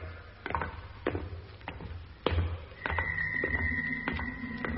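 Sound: door closing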